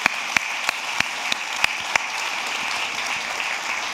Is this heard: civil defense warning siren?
no